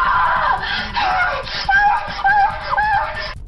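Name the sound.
scream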